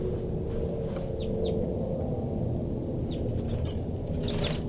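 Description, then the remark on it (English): A female bird, number 33, gives a rapid alarm call series of short, sharp high calls in quick bursts as she goes into tubes, fairly faint beneath a loud, steady low rumble that fills the whole recording. “This is 33 giving a rapid alarm call series, and she's going into tubes.”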